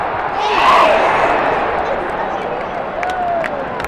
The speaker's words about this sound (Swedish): publikens entusiasm över det svenska lagets insatser visade sig inte bara genom jubel och applåder.